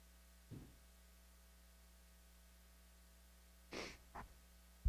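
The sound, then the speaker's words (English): A steady electrical hum runs throughout, broken by a soft low puff early on and then two sharp snorting breaths near the end as a person with allergies, sitting too close to flowers, feels a sneeze coming on. No one speaks. “Sorry about that. I felt a sneeze.”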